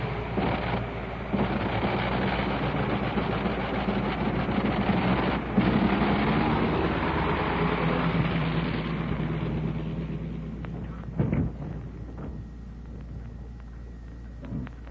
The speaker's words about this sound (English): And there he taxis away. Did you hear the sound of that plane going off? That was the famous Liberty engine, 425 horses, and this version, the one that you heard, was in and installed in a DH-4 U.S. mail plane that did not see service in World War I,